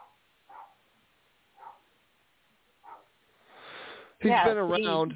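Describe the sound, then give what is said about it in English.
A dog gives three short, soft barks spaced a second or so apart, then a breathy rush of noise leads into a person starting to talk. “The dog agrees with me.”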